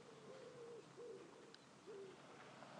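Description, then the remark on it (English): Doves cooing softly in a short series of low, hollow coos with brief pauses between them, set against a steady background hiss. “Doves.”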